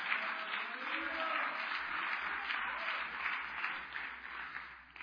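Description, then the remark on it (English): A church audience claps steadily for several seconds, a dense, even wash of many hands at fairly constant loudness, tapering slightly at the end, with no voices standing out. “But listen to us laugh. Listen to us clap.”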